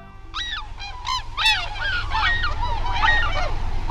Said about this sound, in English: As a flight of tundra swans passes overhead on a winter day, their voices swell in a kind of wild music.